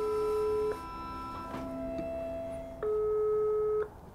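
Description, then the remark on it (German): A telephone ringback tone of an outgoing call to Schorsch's sister sounds twice: a steady electronic tone about a second long, a pause with faint background noise, then a second identical burst, clear. “Wir rufen die Schwester von Schorsch an.”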